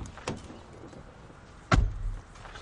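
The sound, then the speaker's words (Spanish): A car's driver-side door unlatches with a soft click, then slams shut with a loud, solid thud about a second and a half later as someone gets in, followed by a low rumble. No one speaks. “Va hacia la puerta del conductor.”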